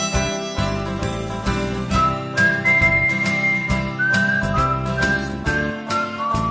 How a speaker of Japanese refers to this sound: 最高に楽しいカントリータッチの生演奏のハーモニカと口笛。